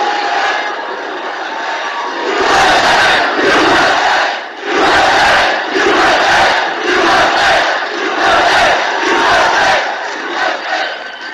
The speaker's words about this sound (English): Listen, and he's talking, and then a ruckus breaks out. Just one idiot. They're booing. 10,000 people booing.